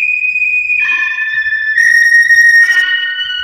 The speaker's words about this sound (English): Then from the south came a sharp whistling sound.